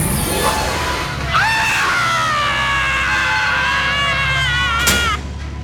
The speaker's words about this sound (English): Yes, you get to scream. I never get to scream.